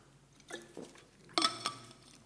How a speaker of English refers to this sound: But I'm going to have to take a swig of water before I attempt to sing.